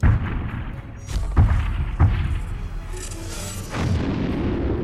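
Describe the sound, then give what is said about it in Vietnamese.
A series of heavy bomb explosions, several deep booming blasts in quick succession over a continuous low rumble, sounding large, with no voices. “Khi hàng ngàn quả bom phát nổ cùng lúc, đó là lúc sự sống của nhân loại chấm hết trên hành tinh này.”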